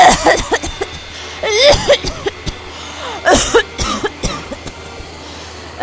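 A woman fakes a violent fit of coughing in front of a public health official asking for her ID: harsh, repeated bursts in quick succession with strained, raspy breaths between them, loud, with no talking.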